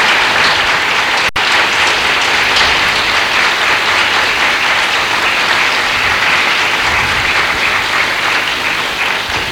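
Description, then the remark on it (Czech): Sustained audience applause, a dense, steady wash of many hands clapping at even loudness for about nine seconds, with no voices standing out. “K tomu potlesku se připojí také já”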